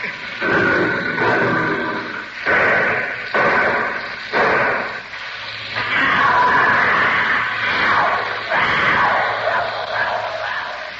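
A tiger screams with loud, raw bursts: several short harsh cries in quick succession, then a longer sustained snarling wail, intense.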